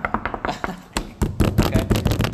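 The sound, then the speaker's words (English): Repeated loud thumps of someone banging on a table, in an uneven rhythm that quickens and grows denser in the second half, about ten hits in a couple of seconds. “He's banging on the table right now.”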